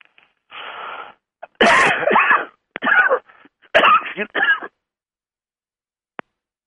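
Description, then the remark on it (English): A few harsh coughs and throat-clearing noises come in loud bursts separated by short pauses, followed by a single faint click near the end. “Is my cough?”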